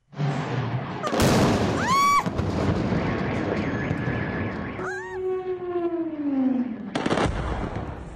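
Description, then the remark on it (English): Several loud explosions boom at irregular intervals in Caracas, Venezuela, around 2 a.m., against a noisy outdoor background, with rising and falling whistling tones sweeping between the blasts. “last Saturday morning by text messages or WhatsApp calls alerting you with videos of explosions like these rocking the capital, Caracas.”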